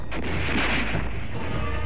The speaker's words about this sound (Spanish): Disparos.